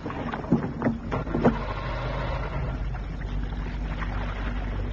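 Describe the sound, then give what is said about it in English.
Three quick sputtering bursts of a boat's outboard motor that never catches as someone tries to start it to pilot the boat back to harbor, followed by a steady low rumble of wind and water around the boat. “I'll start the outboard motor.”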